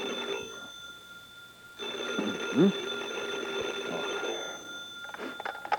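telephone ringing

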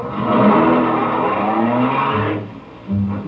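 car driving off

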